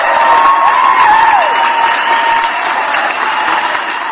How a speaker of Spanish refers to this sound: Se apretó el cinturón, se fajó muy bien sus pantaloncitos, ya lleva 5 pagadas y van los aplausos, por supuesto.